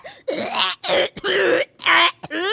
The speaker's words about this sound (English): Suddenly we hear a coughing fit, far worse than any we've heard before.